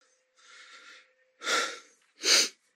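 Heavy, labored panting: a softer drawn-out breath followed by two louder, harsh gasping breaths at a slow, uneven pace, with no talking.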